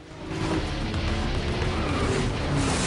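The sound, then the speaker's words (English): A loud engine roars steadily as a motorbike accelerates hard and speeds away, its whining revs holding strong throughout with no voices. “Ford motions ahead and zooms away.”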